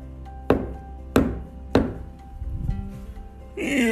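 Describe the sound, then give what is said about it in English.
Three sharp, evenly spaced knocks on the solid wood of a tree, hollow-sounding, followed by a short pause before a voice begins speaking at the very end. “Maybe I'll just start banging on the tree and see what happens.”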